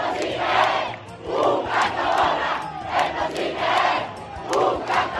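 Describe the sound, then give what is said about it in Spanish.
A crowd of families and children at the Cascamorras festival in Guadix, Spain, runs shouting a rhythmic cry in repeated bursts, roughly one every second, loud massed voices rising and falling in a chant-like pattern over a low background rumble. “A Cascamorras le espera en tierras occitanas una fiesta de rojo amargo, de luz, de risas, de familias y chiquillería que corren al grito de...”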